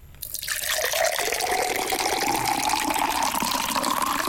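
Water pours steadily into a container on a desk during a pouring game, a continuous splashing gush whose pitch slowly rises as the vessel fills. It is fairly loud, with no voices.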